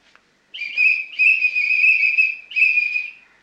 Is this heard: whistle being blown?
yes